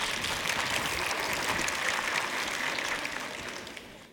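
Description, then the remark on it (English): An audience, those who have finished their Christmas shopping, claps together in a dense, steady burst of crackling applause that holds for a few seconds, then gradually thins out and fades. No voices are heard. “Go ahead and give yourself a round of applause if you have all your Christmas shopping done, if you've actually got it all done.”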